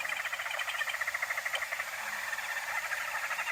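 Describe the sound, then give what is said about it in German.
Zambian barbets chatter and twitter in a dense, unbroken stream of rapid, high-pitched notes, pulsing steadily throughout with no voices over them. “Und das Geschnatter, das Gezwitscher, was ihr gerade hört, das sind die Zambian Barbets.”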